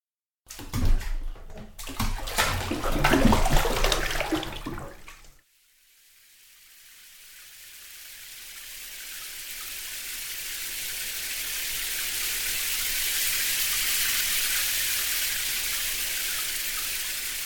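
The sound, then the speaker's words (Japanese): A shower runs, starting with a few seconds of loud splashing and clattering, then settling into a steady, hissing spray that slowly swells and continues with no one talking. “じゃあ、シャワーしてくるね。”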